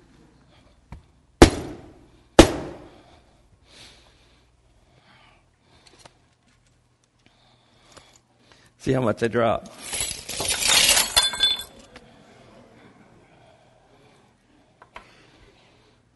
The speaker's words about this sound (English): But what happens is that image is broken. It's shattered. Always wanted to use a hammer in church.